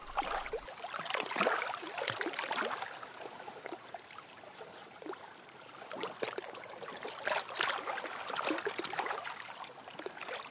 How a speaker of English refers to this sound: Look at areas where the flow is clearly going to be fast, in which case I get very complex water textures, which I love, and then just let my ears guide me.